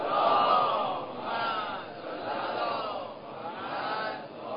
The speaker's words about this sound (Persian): یه صلوات بزنید.